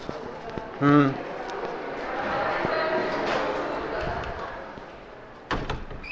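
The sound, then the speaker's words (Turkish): A door is pushed shut with a single solid thud near the end, following a steady wash of crowd activity and muffled voices from an event going on outside. “şu kapıyı şey, dışarıda galiba bayağı bir etkinlik var.”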